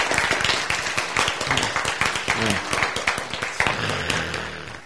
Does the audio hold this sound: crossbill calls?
no